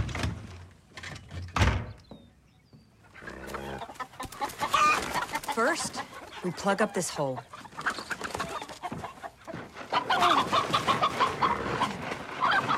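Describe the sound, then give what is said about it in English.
Several chickens cluck and squawk in busy, overlapping bursts as loose chickens outside a chicken coop in a yard are picked up and taken inside, with a brief spoken line and some wooden knocking and scraping as a wooden crate is pushed to block a hole in the wall. “Outside the chicken coop, White Fang watches the loose chickens tentatively”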